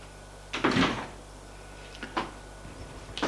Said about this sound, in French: Frappe à la porte. Entrez.